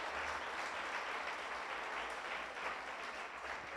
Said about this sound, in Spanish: Dale el aplauso, no se quede con ganas de aplaudirlo.